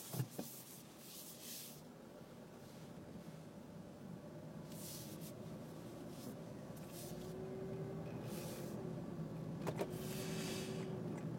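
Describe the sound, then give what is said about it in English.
Inside a moving car, a steady low road-and-engine rumble fills the cabin throughout, with a faint whine rising later and a couple of sharp clicks near the start and end. No one speaks. “Actually, I guess I shouldn't be looking at this while I drive a car, should I?”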